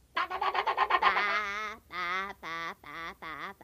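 Many wild ducks call loudly, starting with a quick run of short, rhythmic quacks, then breaking into four longer, nasal, honking cries separated by brief pauses. No voices are heard.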